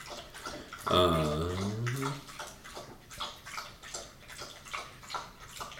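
Yogi, a bulldog, laps water from a bowl: a steady run of wet, slurping licks, roughly two or three per second, after a brief tonal sound near the start.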